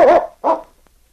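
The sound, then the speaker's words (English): A dog, Yukon King, barks twice in quick succession at the constable's office in Whitehorse, loud, the first bark slightly longer and wavering, with silence afterward and no voices. “One afternoon, Sergeant Preston arrived with his dog, Yukon King, at the constable's office in Whitehorse.”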